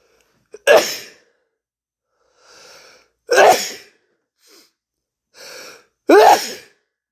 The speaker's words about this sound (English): I usually don't like doing this, but excuse me. I'm going to sneeze soon.